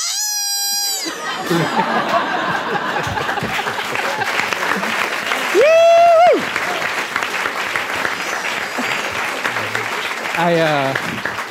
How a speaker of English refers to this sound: I realized I clapped with everyone else.